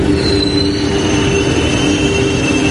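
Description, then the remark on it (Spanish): A train at the railway station in Valencia, around 8 in the morning, rumbles steadily with sustained metallic wheel squeals ringing high above the low mechanical roar, loud, with no voices. “Ocurría cerca de las 8 de la mañana en la estación de ferrocarril de Valencia.”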